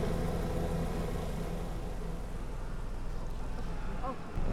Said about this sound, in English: Another helicopter! They're coming to wipe us out!